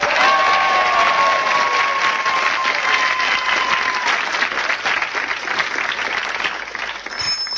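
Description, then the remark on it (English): A large crowd at a football final at the cricket ground roars and claps continuously five minutes after the siren, a dense wash of applause and cheering with a thin whistle-like tone riding over it early on, steady and loud throughout. “5 minutes after the siren, the crowd's still cheering.”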